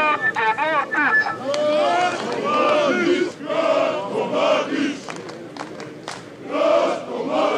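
A large crowd of right-wing protesters in Orašac, Serbia, chants slogans a few steps from the police, including chants for Radovan Karadžić and for Russian-Serbian friendship, many voices shouting together loudly in rhythmic surges that rise and fall without a break.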